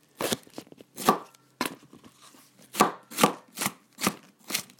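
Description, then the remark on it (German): A knife chops a whole bell pepper into small pieces on a cutting board in a series of sharp knocks, some quick and clustered, others spaced out, with no talking. “Ja, so klingt es, wenn man eine Paprika klein schneidet.”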